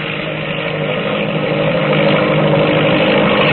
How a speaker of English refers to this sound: But the biplane, she's overtaking us. She's coming like a streak of lightning.